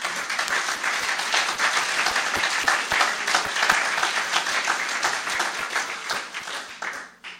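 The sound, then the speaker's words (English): A crowd applauds steadily for several seconds, dense overlapping claps forming a broad, bright wash of sound that holds level before tapering off at the end. No one speaks. “You know, I think he deserves a round of applause.”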